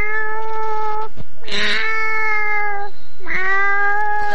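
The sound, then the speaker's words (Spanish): A person imitates a cat at an animal imitation contest, producing three long, drawn-out meows in a row, loud, with short pauses between them and no other talking. “Bien acá, viene este gato.”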